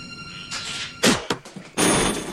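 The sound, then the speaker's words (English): Helicopter doors slam shut as people pile into a helicopter on tarmac by a harbour before taking off: two sharp metallic bangs in quick succession, followed by a louder, sustained rushing clatter like a door sliding and latching, over a low background hum. “They pile into it, slam the doors shut, and take off across the harbour, against a background of many tower blocks reaching up into the sky.”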